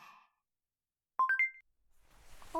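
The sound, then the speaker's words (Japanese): A short three-note electronic chime, a smartphone notification for an incoming LINE message, rises quickly in pitch, bright and clear, standing alone in quiet before faint background noise and a soft tone follow. “あ、先生、スマホ。”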